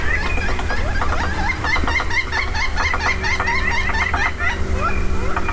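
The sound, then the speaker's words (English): Wild turkey hens cluck in a busy, overlapping chatter of short, sharp notes, continuous, over a steady low background hum. “The hens have gone quiet.”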